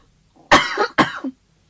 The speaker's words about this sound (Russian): Вот чего я боялась, это этого кашля. Ничего страшного. Вам простительно.